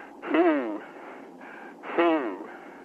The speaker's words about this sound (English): Are you doing some breathing there